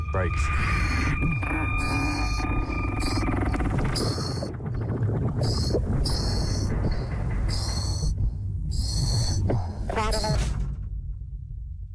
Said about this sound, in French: Et tendez bien l'oreille. Aïe, aïe, aïe. Je voyais son cordon s'amincir et je l'entendais grincer. Le genre de bruit qu'on entend juste avant que ça craque.